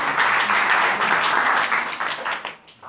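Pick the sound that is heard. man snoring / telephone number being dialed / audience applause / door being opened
audience applause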